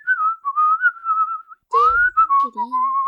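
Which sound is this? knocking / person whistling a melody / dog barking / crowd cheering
person whistling a melody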